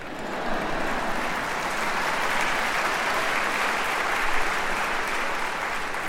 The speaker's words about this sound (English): I'll take 4 claps today.